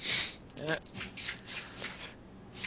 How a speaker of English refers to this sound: I almost grabbed too many dice, I think. No, I grabbed just enough dice.